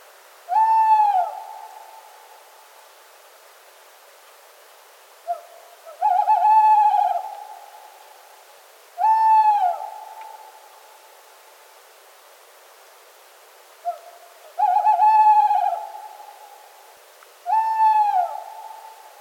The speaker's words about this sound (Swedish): Kattuggla. Letet sjunkande, i slutet vibrerande.